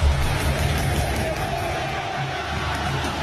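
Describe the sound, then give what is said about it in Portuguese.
Palmeiras football fans at the Pacaembu chant insults in unison, 'time sem vergonha', a dense, steady crowd roar with low massed voices that holds at a constant loud level for about three seconds, no single speaker standing out. “Aí você vai ouvir o gritão do Palmeiras.”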